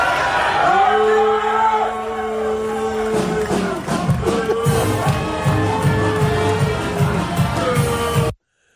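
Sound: crowd booing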